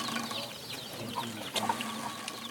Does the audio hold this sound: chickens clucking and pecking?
yes